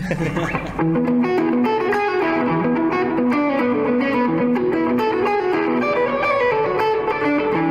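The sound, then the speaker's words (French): An electric guitar with overdrive plays a steady, loud riff of repeated sustained notes, the gritty distorted tone ringing continuously with dense harmonics and regular rhythmic pulses. “Je t'avais dit qu'avec des overdrive on va faire quelque chose qui te plaît.”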